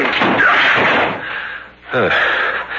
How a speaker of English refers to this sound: Door is locked. Break it in.